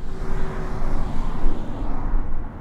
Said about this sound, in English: I don't know how many people actually drive 20 on this road anyway. As you hear cars go by, they're going faster than 20.